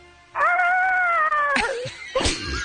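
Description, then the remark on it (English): A person's voice imitates Godzilla's roar to win tickets to Godzilla tonight: a loud, sustained, wavering howl-like cry, then a couple of rough, squawking bursts. It is fairly loud, with no other talking. “if you want to go to Godzilla tonight, you got to give us a Godzilla roar.”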